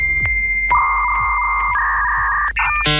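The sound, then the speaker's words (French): Electronic dial-up modem handshake: a steady beep gives way to warbling, shifting tones and bursts of bright chirping, loud with no talking over it. “Vous reconnaissez certainement ce son, celui d'un modem.”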